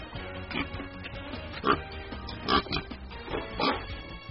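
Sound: pig oinking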